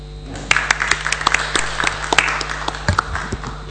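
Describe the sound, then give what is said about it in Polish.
A crowd at a public meeting applauds a woman praised for running the fan zone, a dense patter of many hands clapping at once, steady and moderately loud, with sharper individual claps popping out of the wash. Nobody speaks over it. “Myślę, że te oklaski potwierdzają, pani Katarzyno, że to jest powszechne odczucie.”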